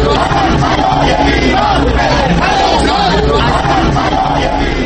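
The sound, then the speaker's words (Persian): A large crowd of Iranian street protesters shouts and chants continuously on 47th Street in New York, which runs perpendicular to First Avenue where the UN headquarters stands, protesting against President Ahmadinejad. Many voices overlap in a loud, dense roar with rising and falling waves of yelling throughout. “فریادهای اعتراض ایرانیان در خیابان 47 که خیابانی عمود بر خیابان 1 مقر سازمان ملل متحد است، به خوبی در محبتی بزرگ این سازمان جهانی شنیده می شد و تردیدی نیست که رئیس جمهوری اسلامی هم حتی برای لحظه ای این فریادهای اعتراض مخالفانش را شنیده است.”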